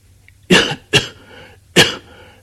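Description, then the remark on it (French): Three sharp coughs from a man who has just swallowed a drink the wrong way: two in quick succession, then a short pause before a final one, with nothing else in the background. “Il tousse un peu, car il vient d'avaler de travers.”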